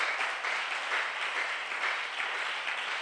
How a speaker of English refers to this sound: I think you can clap to the Lord. Oh, your clap is not sweet. It's not. I'm not feeling any sweetness in it.